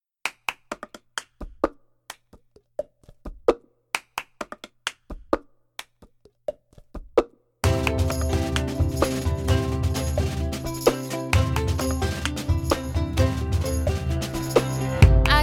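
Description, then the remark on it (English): Crisp, hollow clacks of cups being struck and slapped on a table with two hands in a quick, steady rhythmic pattern, begun by one person and then many, heard alone for several seconds before a full band with singing kicks in loudly. “And it gives, you hear that clicking sound in the song. That's the cups hitting the table.”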